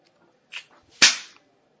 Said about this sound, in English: I'm sorry, I shouldn't have slapped you, but I'm your teacher.